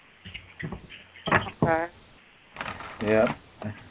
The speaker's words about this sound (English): Yes, guys, if you hear some noises, that's not me rolling down the stairs. It's actually shuffling my cards. I've been thinking about getting a nice little pad put on my desk when I shuffle the cards.